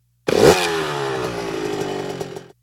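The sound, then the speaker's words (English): A motorbike engine bursts into life with a loud initial roar, then holds a steady, buzzy revving drone for a couple of seconds before cutting off. No voices. “There is a problem, said Dave, and he started the engine.”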